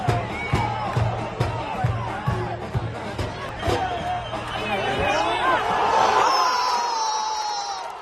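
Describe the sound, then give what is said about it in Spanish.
A large football crowd roars and shouts at a corner by Saplana and a goal by Pomar, in a dense, continuous swell of shouts and groans building toward the end, with a steady low drumbeat thudding underneath for the first six seconds. “El gol de Pomar, y ahí la gente que está ahí pues prácticamente muriéndose de emoción, como escuchamos esos gritos y lamentos.”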